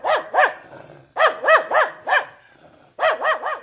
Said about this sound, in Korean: 검은 개가 윙윙 짖으면서 쫓아와 하마터면 다리를 물릴 뻔했다.